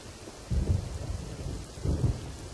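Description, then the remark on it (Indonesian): Steady morning rain hisses across the whole clip, with deep rumbles of thunder swelling twice beneath it, heavy. No one speaks. “Tetapi tak apalah, para guru juga akan mengasih keringanan jika hujan tercipta di pagi hari.”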